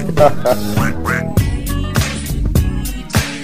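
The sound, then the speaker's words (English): A few nasal duck quacks in quick succession near the start, set against a loud, thumping dance track that carries on underneath. “It's a duck.”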